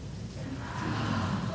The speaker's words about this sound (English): There was a collective gasp.